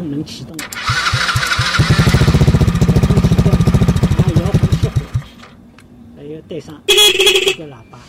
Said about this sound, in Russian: Также есть звуковая система на пульте управления. Кроме того, пультом можно заводить мотор и включать клаксон.